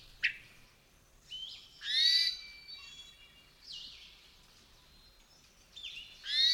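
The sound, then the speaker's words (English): A hermit thrush gives a few nasal, questioning calls, rising and slightly wavering, spaced irregularly against a quiet outdoor background with no one speaking. “Yet another call is a nasal questioning way.”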